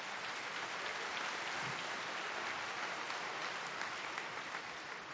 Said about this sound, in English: But it's a little delayed clap there.